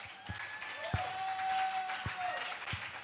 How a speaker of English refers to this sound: Stand to your feet. Clap your hands.